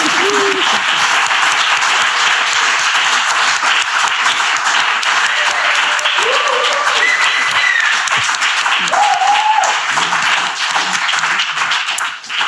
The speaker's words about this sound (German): Und ihr beiden, ihr habt auch einen Applaus verdient. Juhu!